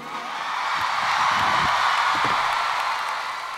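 At a live performance, a crowd applauds steadily to welcome the drummer of the band a band. Dense clapping forms a loud, even wash of noise for a few seconds, with faint cheering mixed in and no talking.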